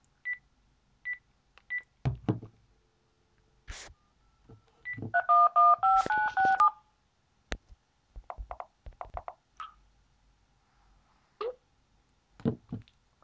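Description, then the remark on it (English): A quick run of loud dual-tone telephone keypad beeps as a phone number is dialed, about six or seven tones in a row at shifting pitches, with short high beeps and clicks and knocks around them. No one speaks. “Let's dial.”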